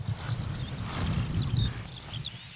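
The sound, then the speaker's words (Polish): A skylark sings in the background, a stream of high, quick chirps and trills, faint above a steady low rumble with soft thuds. “Cały czas skowronek nam towarzyszy, no prawie cały czas, ale takie tło piękne.”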